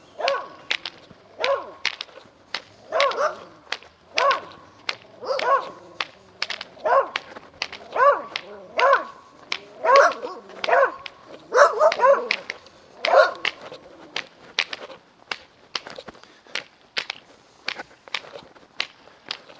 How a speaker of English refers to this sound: Address is 76 Oakland Avenue, Gloversville, heading southwest. Some friendly dogs down here waiting to greet us.